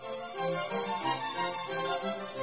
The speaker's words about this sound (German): Das ist Musik. Klassische Musik.